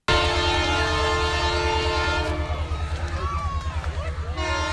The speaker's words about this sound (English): The Holiday train rolled into Belleville just before 9. The stop is part of its trip across Canada this year.